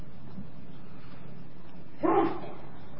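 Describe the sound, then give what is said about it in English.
A single short sneeze bursts out about two-thirds of the way through, sharp and fairly loud against an otherwise quiet background with a low steady hum and no talking. “Bless you.”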